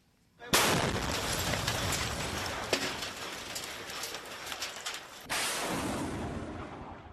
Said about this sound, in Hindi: गोलियों की आवाज, बम धमाके का शोर, बदहवास भागते लोग, एम्बुलेंस की आवाजें। 4 साल से सीरियाई शहर अलेप्पो में बस ऐसा ही मंजर देखा जा रहा है, बस ऐसी ही आवाजें सुनाई पड़ रही हैं।